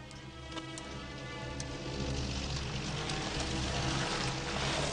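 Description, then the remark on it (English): Water drips and patters steadily in a continuous wash onto the ruins of a building destroyed by fire, the morning after the fire is out, with scattered sharper drops standing out over a low, constant rumble in the background. No voices are heard. “Water drips on the ruins.”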